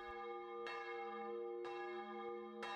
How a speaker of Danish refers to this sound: Henderson og jeg har det samme første minde om lyd, om end på forskellige lokationer, nemlig kirkeklokker.